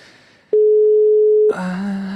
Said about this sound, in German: Und abgedrückt. Es müsste klingeln.